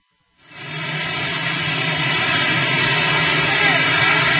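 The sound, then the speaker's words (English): The engine of Marine One, the presidential helicopter, runs with a steady, loud roar and whining hum after President Trump gets off and walks away. It starts abruptly after a brief silence and holds constant throughout. “Here's President Trump when he got off Marine One, walked away, and then took his mask off and saluted the helicopter.”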